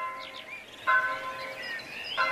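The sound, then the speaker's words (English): Church bells ring with two clear strikes whose tones hang and resonate, while birds chirp faintly in the background. No one speaks. “Bells ringing out from monasteries and parish churches, not just ringing out the time of day, but calling people to prayer.”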